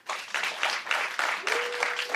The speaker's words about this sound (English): And finally, clap if you're undecided.